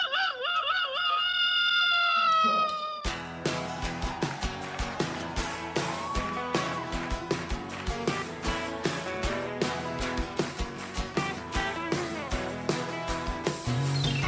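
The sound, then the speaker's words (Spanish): A voice imitates a chicken's cackle and a rooster's crow as a homemade doorbell, in a wavering, drawn-out call for about three seconds, then loud rhythmic music with heavy drums abruptly takes over. “cacarealo por tu cuerpo”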